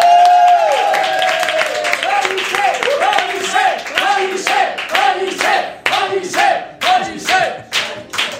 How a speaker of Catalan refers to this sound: Així que rebem amb un fort aplaudiment a Ramon Pellicer.